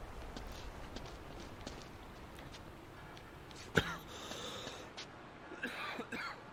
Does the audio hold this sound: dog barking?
no